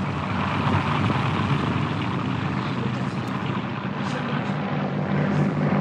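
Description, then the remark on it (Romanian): A small propeller airplane drones steadily and loudly throughout, its engine roar rich in low rumble with a faint shifting whine as it banks and turns. “Acum trăznește avionul de pământ.”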